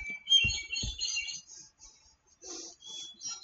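A bird clock plays a short birdsong chime, a few faint, high chirping phrases, with a couple of soft low thumps near the start.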